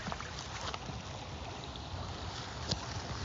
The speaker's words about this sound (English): It's like so quiet. And you can just listen to the creek all day.